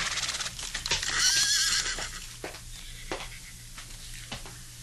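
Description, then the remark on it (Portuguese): A horse being ridden at a farm lets out a loud, shrill whinny, then hooves clop slowly and unevenly on hard ground, a few distinct knocks spaced apart, with no one talking. “Quer desmontar do cavalo e subir, por favor?”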